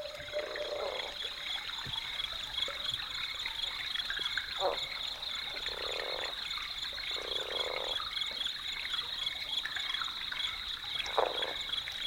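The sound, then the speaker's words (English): Water gurgles and trickles in irregular bursts while frogs croak throughout, over a steady high-pitched chorus that hums without pause. “In the end, I think I erred a little bit toward too much water gurgle in retrospect, but it's still a wonderful recording.”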